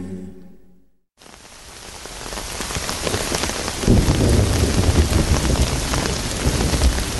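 Steady rain patters densely on a hard surface, a broad hiss that swells louder partway through, after a brief quiet moment at the start. No voices.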